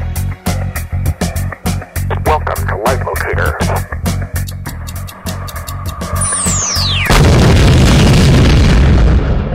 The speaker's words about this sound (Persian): اوه، یه آرم دیگه هم پخش شد. چه آرم باحالی بود. بمب منفجر کرد.